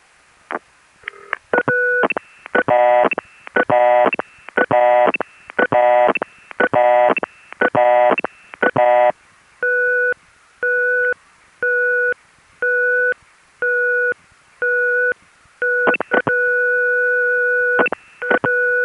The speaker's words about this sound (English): but this next example is a very unusual sounding test line, which I only found in one place, the 333 exchange in Chicago's area code.